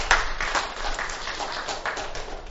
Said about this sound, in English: I think a round of hand clap of praise for them. For their honor and their duty.